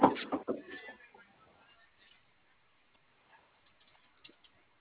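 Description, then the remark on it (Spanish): A quick mechanical clunk and rattle of a car door lock engaging remotely, loud at the start, then fading into quiet with a couple of faint clicks afterward. “Ahí va la otra puerta.”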